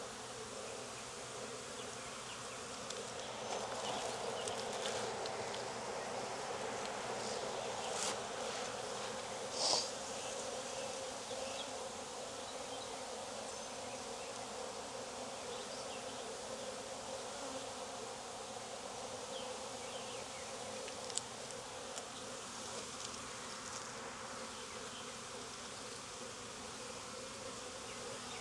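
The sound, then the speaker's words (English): A dense, steady hum of many honeybees buzzing around an open hive, a continuous droning swarm with occasional brief louder passes and light clicks, no voices. “If I add any of these frames to the other hive, I just need to make sure I shake all the bees off so I don't get a possible virgin or my queen.”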